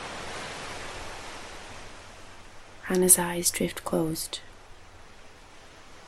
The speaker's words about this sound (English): The sound of waves is calm and hypnotic, like a Buddhist chant.